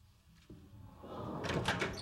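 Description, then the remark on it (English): A door opens with a soft thud, followed by a rising scrape and rattle as it swings or slides, moderately loud. No one speaks. “You might want to lock the door behind me.”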